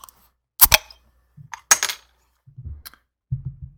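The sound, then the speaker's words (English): A Knee Deep Brewing Irish style ale (6% ABV) being cracked open: two sharp, loud snaps with a brief fizzy hiss, then a small click and some soft, low handling thuds. No one speaks. “And I'm going ahead and crack it.”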